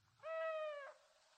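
A single owl hoot, clear, held as one steady tone for just over half a second before cutting off, with faint background hiss and no voices.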